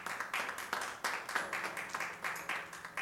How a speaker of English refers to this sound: Yeah, just clap your hands right there for a moment.